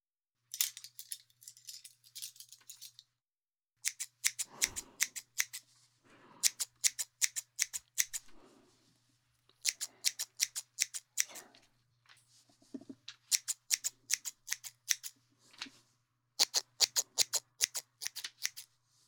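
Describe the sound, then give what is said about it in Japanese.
Rapid bursts of crisp scissor snips thinning out a thick head of hair all over, coming in quick rhythmic runs separated by short pauses, with a faint steady hum underneath and no talking. “まずは全体的に空いていこう。”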